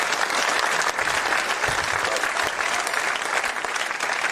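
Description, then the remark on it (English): Sustained audience applause fills the whole stretch, a dense, even wash of many hands clapping at steady loudness with no pause or voice rising above it. “Give Matt another round of applause.”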